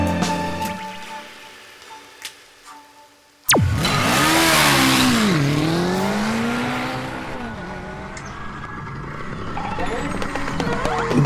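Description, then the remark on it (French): The engine of a small Dax ST70 motorbike, a 72 cc single-cylinder four-stroke, bursts to life after a few quiet seconds, revving loudly, its pitch dipping and climbing before settling into a steady, buzzy idle. “Mais regardez-moi ce merveilleux petit mot. Dax ST70 monocylindre, 4 temps, 72 cm3, 5, 6 chevaux à 8000 tours minute, 3 vitesses en prise, en rayage, en trifuge automatique, un authentique joyau.”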